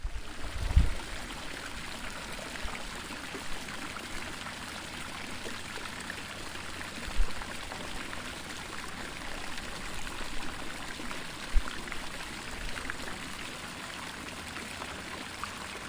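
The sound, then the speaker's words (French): A steady, unbroken rush of cascading water from a waterfall in front of a hidden cave fills the whole stretch at moderate loudness, with a few soft low thumps and no voices. “Après avoir franchi des rivières, et des montagnes escarpées, le brave capitaine arriva devant une grotte cachée derrière une cascade.”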